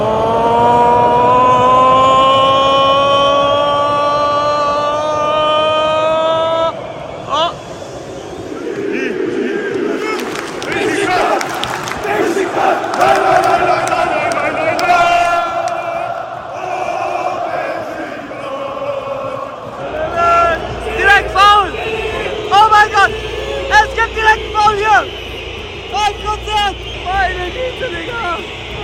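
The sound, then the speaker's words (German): A huge stadium crowd at the Beşiktaş–Galatasaray derby roars and chants in unison, followed by waves of loud, shrill whistling from thousands of fans whenever Galatasaray has the ball, swelling and persisting over the din. “Immer wenn Galatasaray im Ballbesitz ist, pfeift das ganze Stadion.”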